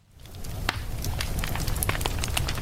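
A wood fire crackles in an open fireplace, irregular sharp pops and snaps scattered over a steady low rumble, moderately loud, with no voices.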